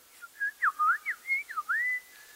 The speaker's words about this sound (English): And the sun's going down, and I'm full and satiated. And it's a beautiful sunset. The time of the year is about spring. So sunset's about 7 p.m. Temperature's nice. Can you hear the birds?